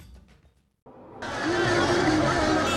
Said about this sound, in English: Kalbal residents celebrating and honking their car horns late on Monday night as American troops finished their full withdrawal from Afghanistan.